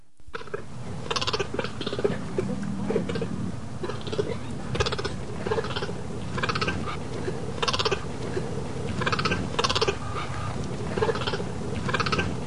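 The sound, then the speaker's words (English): A male cheetah gives a long run of short, harsh barking calls, the specific bark used to call out to mates, repeated at a fairly steady pace over a continuous low rumble, with no talking. “That was a cheetah. Really? A cheetah? Yes, it was. And a male cheetah.”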